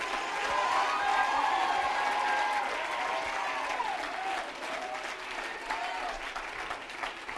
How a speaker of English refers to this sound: If you're going for God all the way, I want you to stand on your feet right now, and I want you to give God a hand clap of praise. Come on, I want you to give God a hand clap of praise and a shout.